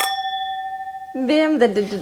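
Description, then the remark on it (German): A filled drinking glass is struck once during a toast, giving a clear, high ringing tone that sustains evenly for about a second before a voice starts talking over its fading ring. “Dein Glas klingt anders als meins.”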